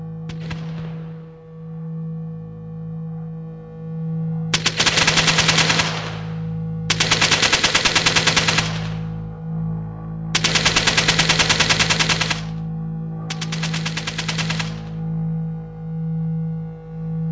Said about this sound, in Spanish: ¡No! gente corriendo a coger el autobús en Piccadilly con el sonido de una ametralladora disparando.